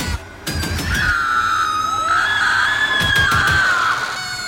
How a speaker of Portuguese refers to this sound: Os segundos sem reação foram interrompidos por um grito alto de desespero, em outro canto da casa.